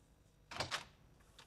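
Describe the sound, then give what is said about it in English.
A man opens his front door to a lifeguard, with a quick rattling clatter of the latch, two sharp clicks followed by a couple of fainter taps as it settles, with no voices. “The next day, Charlie opens his front door to the hunky lifeguard who gave him mouth-to-mouth resuscitation.”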